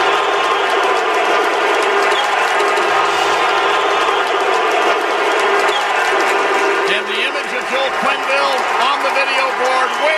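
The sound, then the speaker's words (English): An arena hockey crowd gives a standing ovation to former Blackhawks head coach Joel Quenneville, roaring and chanting continuously, a sustained wall of many voices; in the final seconds rising, rhythmic vocal swells stand out above the din, cheering rather than booing. “Those are not boos.”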